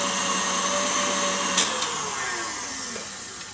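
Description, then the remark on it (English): An electric mixer whips dough, aiming for slightly thicker ribbons. It whirs steadily and loudly with no talking, its motor hum sliding slightly lower in pitch as it runs, with a couple of brief clicks partway through. “Another spin on this. I want to get those ribbons slightly thicker, but I don't want to over whip.”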